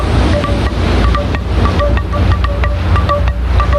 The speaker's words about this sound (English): Because the ocean have a sound, and the ocean has a beat.